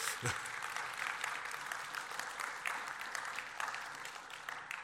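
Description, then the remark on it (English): A crowd claps steadily for about five seconds, a dense, even patter of many hands at moderate volume with no voices over it. “If you're going to clap for 7, you better clap for 12, because teenagers are harder than kids.”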